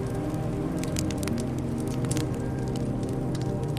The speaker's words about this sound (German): Von einem Sandwall geschützt, schichtest du ein paar kleinere Zweige übereinander, um dir ein kleines Lagerfeuer zu machen. Schon knistert es heimlich und eine angenehme Wärme breitet sich aus.